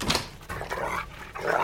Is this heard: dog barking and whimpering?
yes